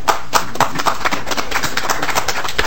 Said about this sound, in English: I'm going to ask them to join me in standing and saying thank you to you for all the work that you're doing on behalf of the state of Minnesota and at Land-Grant University. Thank you very much. We applaud you.